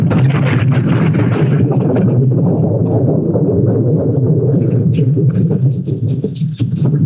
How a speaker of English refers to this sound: Topside, the only hope was that the explosions would somehow subside. Until they did, no firefighting team could possibly survive on deck. In all, during the fire's first 5 minutes, 9 major explosions would take place on the plane.